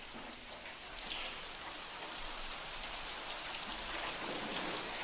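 Hail pelts a hard surface in a dense, steady clatter, countless sharp little impacts blending into a loud hiss that continues without pause and without any voices.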